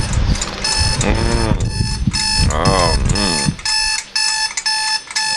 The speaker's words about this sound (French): Ton réveil sonne. Allez dépêche, il est l'heure d'être là.